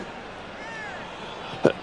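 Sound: sneeze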